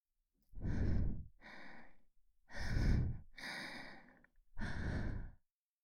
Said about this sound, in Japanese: 水気を帯びた女の息遣いが布団の向こうから伝わってきます。